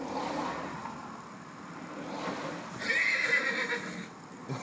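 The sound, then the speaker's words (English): A horse in a horsebox trailer whinnies, a rising, shrill neigh that swells midway and then fades, over a low rumbling background with faint clip-clop and traffic noise. “Come on, whinny.”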